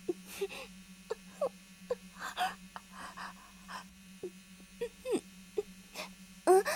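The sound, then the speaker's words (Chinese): A mosquito's thin, steady buzz drones continuously through the whole stretch, fairly faint, while short breathy gasps and soft vocal sounds come and go over it. “蚊子吧，夏天最容易出蚊子了。”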